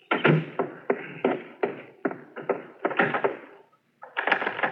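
A telephone receiver is picked up and dialed to phone the butcher, with a steady series of sharp mechanical clacks and rattles, a brief pause, then one more rattling burst. No one speaks.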